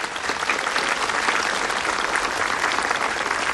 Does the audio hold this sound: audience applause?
yes